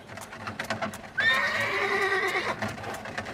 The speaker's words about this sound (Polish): Konka, czyli tramwaj miejski, na torach tramwajowych, na szynach jeździł, ale był poruszany energią konia. Tramwaj miejski, konny, powstał wtedy, w 1895 roku, w związku z porozumieniem Belgijskiego Towarzystwa Akcyjnego i władz miasta Białegostoku.